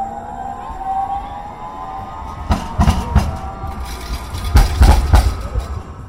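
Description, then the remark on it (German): A streetcar tram on the Central Loop Line in Portland, which links the airport with downtown, runs along its rails with a steady rising motor whine, broken by two loud bursts of clattering wheel clacks over rail joints, continuous with no voices. “Die Central Loop Line, eine Straßenbahnlinie in Portland, die den Flughafen mit Downtown verbindet.”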